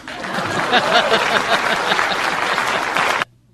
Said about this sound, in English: I thought you might clap for that. I thought you might clap for that. Remember? Please clap.